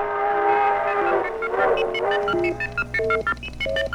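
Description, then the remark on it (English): A passing crack train running from Tulsa to Kansas City sounds a loud, sustained chord-like whistle that swells, then gives way to a low rumble with a few shorter, clipped whistle blasts near the end. Nobody speaks. “or as you've rocketed your way by crack train from Tulsa to Kansas City for that important Monday morning appointment.”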